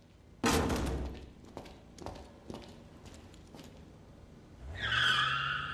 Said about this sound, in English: Flashing lights approach. Two police cars stop.